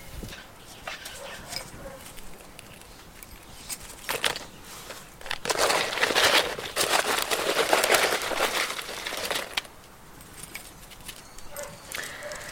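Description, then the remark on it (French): Dry rustling and crinkling as wheat and bread are handled and poured to make food for a pigeon kept in an aviary, with a louder, steady burst of pouring in the middle before it settles back to soft rustles and small knocks. “Là, je suis en train de mettre du blé et du pain pour le nourrir, du coup.”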